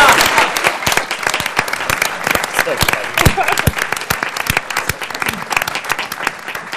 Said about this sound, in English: Let's give a round of applause to all of those.